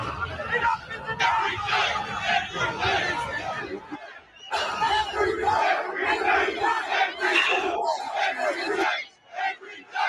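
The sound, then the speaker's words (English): A large protest crowd of thousands in Australia yells and roars in loud, sustained waves of overlapping voices, with a brief dip around four seconds before the shouting surges again, then tapers near the end. “They're screaming every day.”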